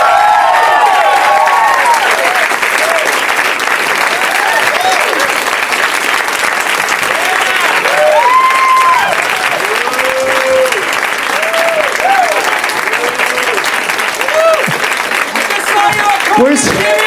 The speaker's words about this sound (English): People are yelling specific things at the guests.